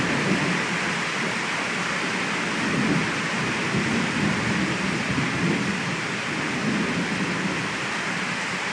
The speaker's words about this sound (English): Can you hear that thunder? And the rain?